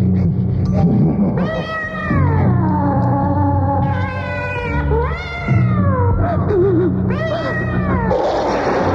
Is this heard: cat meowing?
yes